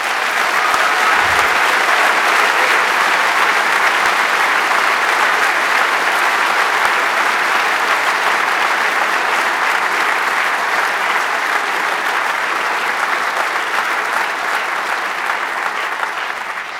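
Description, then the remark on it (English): Loud, sustained applause from a large audience at the BCC for the organizing team, a dense steady wash of clapping that holds at full strength for over fifteen seconds with no speech over it. “And so please a huge round of applause for the Orga team who made this whole thing happen even weeks before.”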